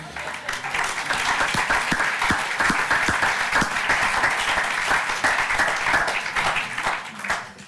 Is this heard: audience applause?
yes